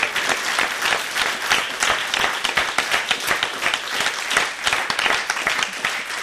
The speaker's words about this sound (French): Jean-Marc Richard, on peut vous applaudir encore une fois.